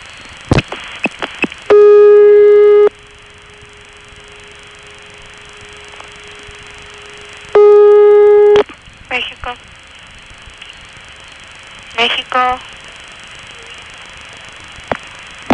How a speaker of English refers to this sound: When I flash my hook, you hear 3 bursts of 2600, which is the momentary on-hook signal going down the line. Then you'll hear the trunk in Mexico going back into a ringing mode.